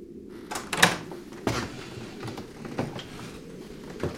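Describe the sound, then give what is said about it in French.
A door is handled and locked: a sharp metallic click and rattle, followed by a few softer knocks and scrapes as it settles shut, with no voices. “Trop hébété pour être curieux moi-même, je verrouillais ma porte et cherchais le lit des yeux autour de moi.”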